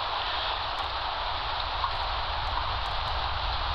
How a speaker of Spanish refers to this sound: Se detuvo y escuchó el leve crepitar de la lluvia sobre la superficie de cemento.